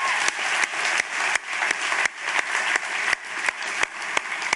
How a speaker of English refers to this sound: Come on, that deserves a clap, doesn't it?